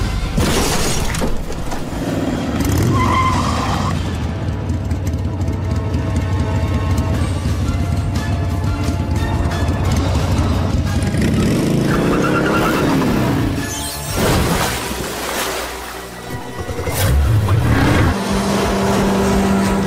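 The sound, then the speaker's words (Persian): A black car's engine roars and revs loudly, with harsh screeching bursts like skidding tires and a rising, falling whine near the end. No one speaks. “ماشینه سیاه عصبانیه یا چی؟ احتمالاً داره دنبال یکی که سوار همچین ماشینه یه میگرده.”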